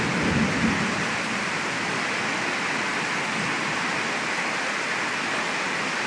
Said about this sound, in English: We've had some thunder and lightning here that you would not believe. It has just shook the whole house here. The poor cat is just terrified. That is just the rain's just pouring down here still.